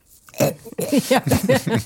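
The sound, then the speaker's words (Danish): A rapid run of five or six harsh, voiced coughs, fairly loud, following one short cough at the start, coughing up water. “Hoster igen.”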